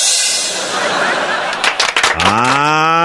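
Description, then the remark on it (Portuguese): A loud cow moo rises abruptly near the end and holds for about a second, following a stretch of dense, hissy background noise. “Nesse caso era corta o boi.”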